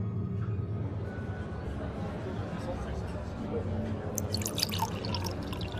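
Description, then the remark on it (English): A drink is poured into a glass, a steady liquid rush with bright splashing and clinking toward the end, over a low murmuring background. “Just a small glass for me, please.”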